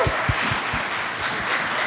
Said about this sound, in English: So can they get a hand of applause? Woo!